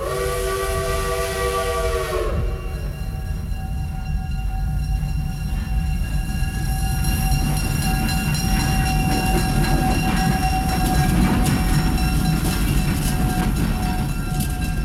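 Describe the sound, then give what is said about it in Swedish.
An American train's multi-tone horn blares for about two seconds, then gives way to a loud, steady rumble and rattle of rail cars rolling past, with no voices. “Nej, förresten, vi tar ett amerikanskt tåg istället.”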